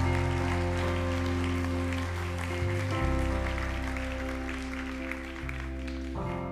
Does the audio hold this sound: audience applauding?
yes